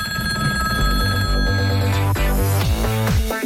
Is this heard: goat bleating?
no